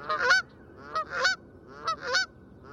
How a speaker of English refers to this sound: If species look similar, could they have different voices, like the Canada goose's brassy honks?